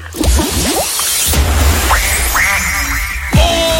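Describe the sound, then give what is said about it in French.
A duck quacking sound effect on 100% Radio: a series of loud, nasal quacks in quick succession, some rising and stretched, over a busy, noisy background with no talking. “Ce fameux canard qu'on attend, il est là!”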